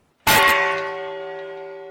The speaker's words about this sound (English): The Peace Bell was a gift from the UN Association of Japan in June 1954. At the time, the country was not yet a member of the United Nations.